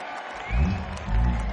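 An audience applauds a performer on stage, a dense, steady wash of clapping over a low rumble that swells midway and rises again near the end, with no clear speech.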